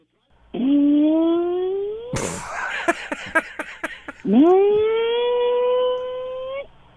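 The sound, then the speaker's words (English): A voice imitates a car's recurring noise, which comes at about 2 to 3 minute intervals, like passing wind: a rising, droning hum, then a raspy sputtering stretch of about a half-dozen rapid pops, then the rising hum again, loud and alone. “And the noise that it makes is about a 2 to 3 minute interval. And it sounds like it's passing wind.”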